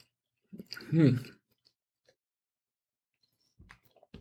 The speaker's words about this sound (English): I'm going to have a little cracker clear the palate with. A little cracker in water to clear the palate with.